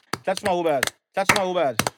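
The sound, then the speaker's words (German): A few sharp hand claps, about four, spaced across two seconds. Each crack is short and bright, landing at the edges of two stretches of voiced, tonal vocal sound that runs under them. “Aber dann lass noch mal eben noch mal eben klatschen”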